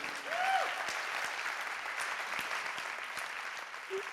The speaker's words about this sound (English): Something that made mothers, you can clap for that. That's not a bad thing to clap for.